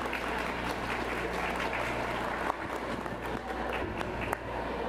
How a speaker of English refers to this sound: So let's get a quick round of applause for all of our panelists.